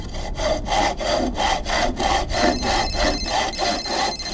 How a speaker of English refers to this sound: I want you to have the fun of sawing through the tree trunk.